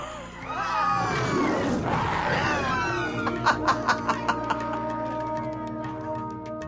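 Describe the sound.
Several people roar together, imitating lions as a 'lion laughter' exercise in laughter yoga, with loud, rising and falling throaty howls for a few seconds, then a quick run of short rhythmic bursts like laughter follows as a steady tone lingers.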